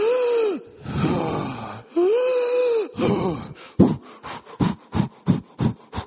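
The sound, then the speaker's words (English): Heavy, labored breathing of runners during a run: long rasping, wheezy inhales and exhales, then quickening into a rapid series of short panting breaths near the end. “All sorts of breathing going on.”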